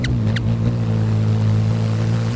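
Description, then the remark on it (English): A steady, buzzing hum of hummingbird wings in flight, low and droning with a motor-like tone, holding level throughout, with two quick high chirps at the very start. “Their wings might whoosh, but only a hummingbird's hum.”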